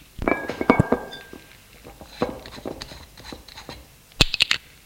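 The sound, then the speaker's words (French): A cheap glass beer bottle, taken from a suitcase, is handled and opened: a cluster of clinks and dull knocks with a brief ringing tone, scattered quieter taps, then a sharp metallic snap and rattle at the end. No voices. “Il ouvre la bouteille et l'attend à la fille.”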